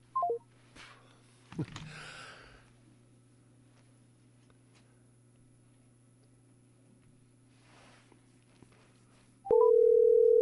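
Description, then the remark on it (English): Telephone line sounds while redialing a disconnected caller: a quick burst of dialing tones, a click and low hum, then near silence before a loud, steady tone sets in near the end, with no voices. “Oh, yeah, listen to that ringing.”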